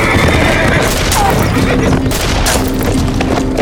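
Loud gunfire crackles through a dense, chaotic din, with sharp shots bursting repeatedly over a constant rumble for the whole few seconds.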